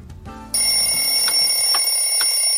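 A clock ticks at a steady, moderate pace, its sharp ticks sounding clear over a sustained, bright high-pitched ringing tone that starts abruptly and holds throughout.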